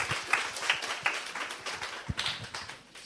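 A church audience applauds to welcome a guest speaker, many hands clapping in a dense, uneven patter of sharp bright claps that holds steady for a few seconds, with no one speaking over it.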